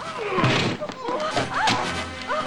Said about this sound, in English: The heavy throws him against shelves. Oh, my perfumes! No!